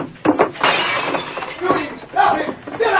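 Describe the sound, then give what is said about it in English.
Window glass shatters in a loud, bright crash as the Lone Ranger leaps through a cafe window, followed by a sustained spray of tinkling, rattling shards, with a second burst of breaking glass near the end. “In the darkness and confusion, while the three outlaws were helplessly off balance, the Lone Ranger leaped through the window.”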